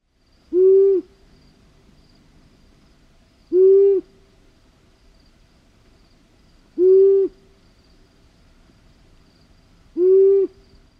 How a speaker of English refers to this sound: long-eared owl, they have a single note, but it's not as low in pitch as the great gray owl. It's closer in pitch to a horned owl, but like I said, there's kind of a pattern to a horned owl's call, where a long-eared owl is kind of a single note